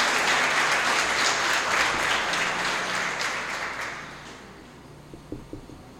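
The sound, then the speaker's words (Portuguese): An audience in a church service applauds the Lord in a dense, steady wash of clapping that gradually fades out, leaving a few scattered claps at the end. “Diga glória a Deus, aplauda o Senhor, isso.”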